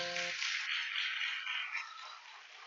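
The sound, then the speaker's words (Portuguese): A crowd claps steadily, a dense wash of hands that starts right after a brief voice and carries on at an even level throughout, without any talking over it. “Pode aplaudir.”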